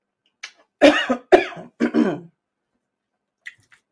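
A quick run of harsh coughs, about four bursts in rapid succession with a raspy throat-clearing quality, then silence except for a faint click near the end.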